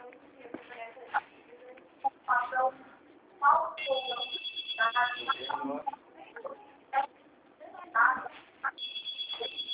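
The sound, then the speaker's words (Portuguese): A telephone rings in two bursts of steady, high-pitched electronic tone, one long and one starting near the end, while people talk over it throughout. “Por favor, chama um pouquinho mais.”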